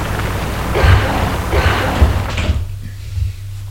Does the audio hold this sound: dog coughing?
no